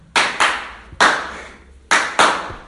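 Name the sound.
hand clapping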